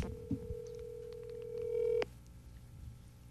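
A call placed from one cell phone to another: a steady, mid-pitched ringing tone holds for about two seconds with faint keypad beeps over it, then cuts off abruptly with a click. No one speaks.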